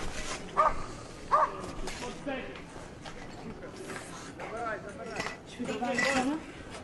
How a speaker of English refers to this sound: Yes, we hear dogs. Dogs, of course, must be extremely alarmed because they have extremely sensitive ears, so the shockwave must be hard to handle for them.